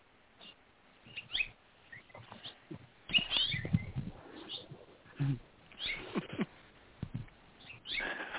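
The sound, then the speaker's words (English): A starling chirps while feeding its chick, with birds calling in a busy, irregular series of short bursts, moderately loud, with overlapping twittering notes and no one talking. “And now it's a different bird chirping.”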